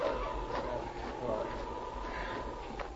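A pack of Malamute sled dogs barks and yips in short, scattered bursts over a steady, noisy outdoor background, the calls overlapping.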